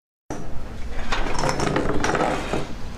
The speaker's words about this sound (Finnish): Tuolit ja pöydät kolisevat, kun valensialaisessa rantakahvilassa otetaan kalustoa esiin koronamääräysten mukaiseen asentoon. Metallinen mittanauha on käytössä.